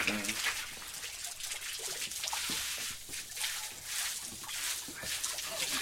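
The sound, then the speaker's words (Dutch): Shower water runs steadily in a continuous hiss, with splashing and spattering that rises and falls slightly throughout, while faint voices murmur underneath. “Auw, die rotdouches. Of ze zijn te heet, of ze zijn te koud.”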